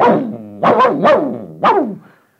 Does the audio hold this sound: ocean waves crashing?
no